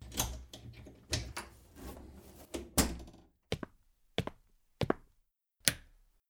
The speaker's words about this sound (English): I opened the door of my apartment and turned on the light.